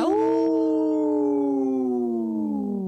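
A lone wolf lets out one long, loud howl, holding a steady tone before it slowly slides downward in pitch, with no voices or other sounds around it.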